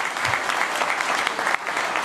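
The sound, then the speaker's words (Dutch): Steady audience applause after a child pledges to work for all children in the municipality of Oude IJsselstreek, a dense crackle of many hands clapping at a fairly loud, even level with no voices standing out. “Een applaus.”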